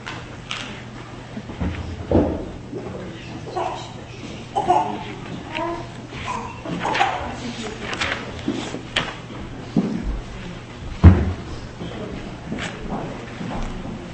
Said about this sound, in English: We're going to conclude the service with one more opening of the ark, but this time, not the curtain, just the doors. I'd like to ask for two people, a man and a woman, to please come up and take the honor of opening the doors.